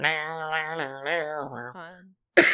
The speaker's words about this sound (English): It's like choking. It sounded like a rock and roll, like a noise from a rock and roll song and not a cough.